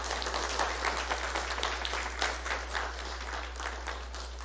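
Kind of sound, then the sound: crowd, warm applause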